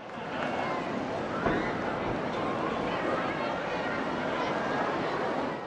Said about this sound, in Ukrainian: Однак чуєте, скільки людей, який величезний натовп.